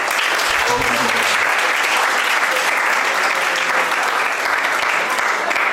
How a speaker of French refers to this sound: On va d'abord applaudir pour le père.